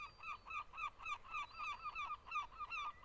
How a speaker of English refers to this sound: Oh, gulls, gulls, gulls, fucking gulls.